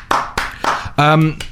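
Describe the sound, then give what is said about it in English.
A handful of slow, scattered claps, about four or five sharp hits spread unevenly, with a short sustained vocal sound breaking in partway through, welcoming a guest being interviewed on the radio programme The Breakfasty Brunchy Show. “That's a desultory applause there, wasn't it?”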